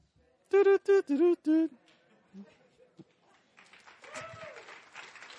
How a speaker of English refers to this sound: Thank you. Round of applause.